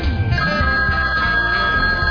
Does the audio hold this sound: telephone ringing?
yes